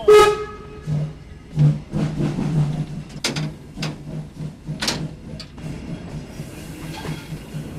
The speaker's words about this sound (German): Okay, also am Anlegen. Wir machen jetzt eine sogenannte Bremsprobe, damit der Zug überhaupt auf die Strecke fahren darf, damit wir wissen, dass alle Fahrzeuge vernünftig bremsen.